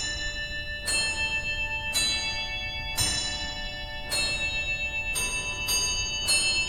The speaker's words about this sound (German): Und es ist ja in der Nachbarschaft zu anderen Effektregistern, die tatsächlich dann auch Klänge erzeugen. Eines dieser klingenden Effektregister ist das Carillon.